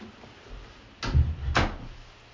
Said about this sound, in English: Let me just close this door really quick here.